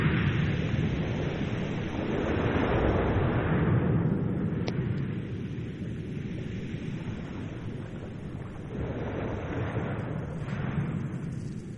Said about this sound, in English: The recording is made with a hydrophone, an underwater microphone, which picks up the sound of the strong tide as it moves the pebbles around on the seashore.